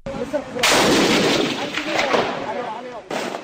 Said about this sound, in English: An explosion tears into a military vehicle, and the military responds with gunfire, which kills at least four people. It's just another day in Mogadishu.